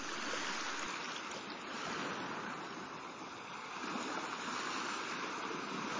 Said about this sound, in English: Listen to the waves.